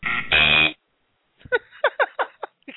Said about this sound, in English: he's getting every buzzer we've got.